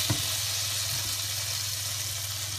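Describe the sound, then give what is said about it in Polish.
A steady, soft sizzle of butter melting in a frying pan, a continuous crackling hiss with a brief knock near the start and no talking. “Teraz weźmiemy się za smażenie naszych szparagów, które owinęliśmy włoskiem. Wrzuciłem trochę masła. Rozpuszczam jego na chwilę.”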